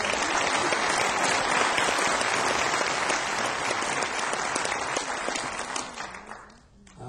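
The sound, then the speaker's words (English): A crowd applauds steadily to greet a young man being introduced, a dense wash of many hands clapping at once that holds strong for several seconds before thinning out near the end. “Round of applause.”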